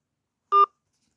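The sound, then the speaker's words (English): A single short phone keypad tone from a button pressed in answer to an automated phone menu, a clean dual-pitched beep lasting a fraction of a second, sounding alone against silence with no voices. “If you would like to associate the phone number you are calling from with this account, press 1. Otherwise, press 2.”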